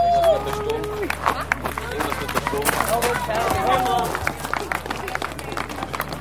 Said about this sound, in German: Wer den Tunnel erreicht, hat das Schlimmste geschafft und wird mit Beifall belohnt.